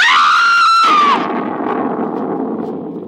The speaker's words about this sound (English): To whiten my hair a scream of fright.